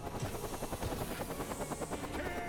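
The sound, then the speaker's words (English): A helicopter's rotor thumps in a steady, rapid rhythm beneath a broad engine roar, loud as it glides overhead, churning dirt-filled air, and touches down in a yard, with no voices. “A helicopter glides overhead.”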